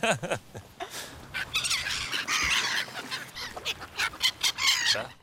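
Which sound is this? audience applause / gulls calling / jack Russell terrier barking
gulls calling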